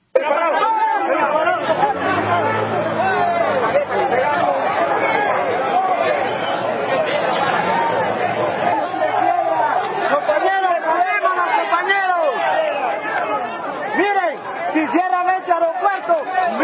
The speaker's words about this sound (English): They booted him out of the country, and some of the people in Honduras, none too happy. Here's what some of the crowds sounded like over the weekend.